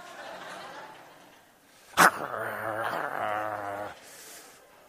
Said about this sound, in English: That's not a receptionist, a receiving person. That's a bulldog.